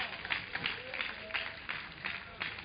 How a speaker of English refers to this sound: Let's give the Lord a clap of it.